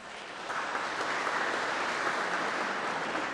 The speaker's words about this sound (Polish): Wielkie brawa.